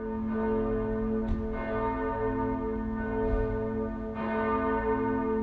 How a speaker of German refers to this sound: Und dann dachten, das sind für die nächsten 100 Jahre unsere Glocke wieder von St. Ursula. Und dann, wie das die Leute angingen und dann die dicke Ursula-Glocke ging als erstes an. Dann kamen nachher die anderen Glocken, weil haben viele geweint.